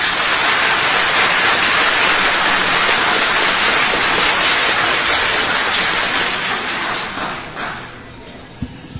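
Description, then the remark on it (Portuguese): Sustained audience applause at an event, requested for CEPED secretary Vânia Sueli de Melo e Silva and FAPEAM (Amazonas research foundation) president Maria Olívia Simão: a dense steady patter of many hands clapping at even loudness for several seconds, then thinning and dying away near the end. No one speaks. “da coordenação deste evento, agradecemos à secretária da CEPED, senhora Vânia Sueli de Melo e Silva, e a presidente da Fundação de Amparo à Pesquisa do Estado do Amazonas, FAPEAM, doutora Maria Olívia Simão, para quem pedimos uma salva de palmas.”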